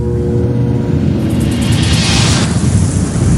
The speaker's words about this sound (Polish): Jesteście w jednym kawałku, bo ładunek nie był otoczony kamieniami. Gdyby tak było, siła wybuchu poszłaby w górę. Tymczasem większość impetu rozeszła się po bokach.